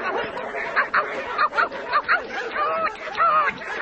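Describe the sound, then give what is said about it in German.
Several dogs bark and yelp in quick, irregular bursts, overlapping one another against a busy, chattering background. “Ruhig, ruhig. Brave Hunde.”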